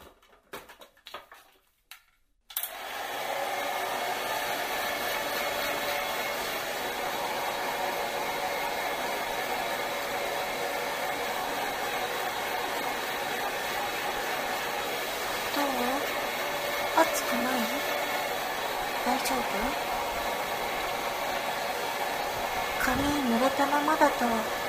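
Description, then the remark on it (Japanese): A hair dryer switches on after a brief quiet start and blows steadily and loudly, a constant whoosh of air as someone dries another person's hair, with a soft voice faintly audible beneath it now and then. “髪乾かしてあげる。じゃあここに座って。ドライヤーしていくよ。”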